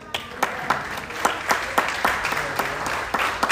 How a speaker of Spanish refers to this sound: Denle aplauso.